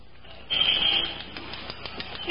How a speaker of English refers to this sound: Maybe you ought to use the glass cutter some more.